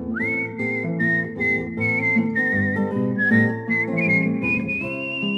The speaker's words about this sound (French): Mais qu'as-tu donc, ma fille, à siffler, siffler ainsi? J'aime mieux siffler pour un homme que pour mes brebis.